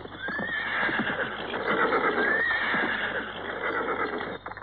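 A horse whinnies twice in close succession, loud, with rising and falling squeals over a continuous background of hoofbeats and rustling; no one speaks.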